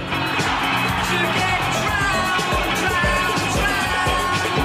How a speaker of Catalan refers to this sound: Están aplaudiendo al DJ. No a la música, no al músico, no al creador, sino al medium.